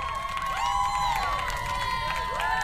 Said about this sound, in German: Ein Raunen und Applaus gingen durch die Runde.